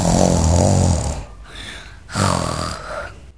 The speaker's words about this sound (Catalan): Totes dues corregueren al jardí on el llop encara estava roncant molt fort.